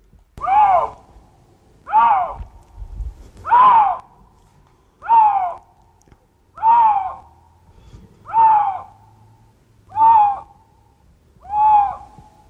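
Lynx mating calls: eight loud, hoarse, mid-pitched cries repeated at a steady pace about every second and a half, each briefly rising then falling, with no talking over them.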